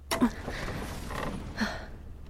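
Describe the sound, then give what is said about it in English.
A heavy object is dragged across the floor in front of a door in a few rough, scraping pushes with creaks, moderately quiet, with no talking. “Okay, help me move this in front of the door.”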